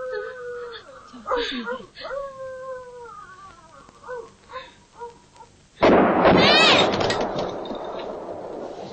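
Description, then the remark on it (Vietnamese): A sudden loud explosive blast erupts partway through and roars on with crackling, rumbling noise, like a gunshot or firecracker burst, following earlier high, wavering howl-like tones. “Sao tiếng nổ nghe thanh quá? Con nghe tiếng nổ như tiếng súng đó mẹ.”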